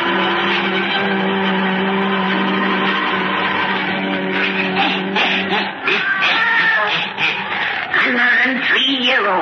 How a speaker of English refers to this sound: The fascination of the eerie, weird, blood-chilling tales told by old Nancy, the witch of Salem, and Satan, her wise black cat.